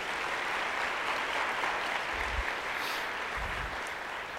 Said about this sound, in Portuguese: Você pode aplaudir a Jesus aí?